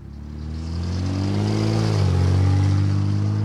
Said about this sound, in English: Cars whiz by in a busy intersection in downtown Saginaw. Each and every one of them is being tracked by four cameras on nearby light poles at the intersection of Court Street and South Michigan Avenue.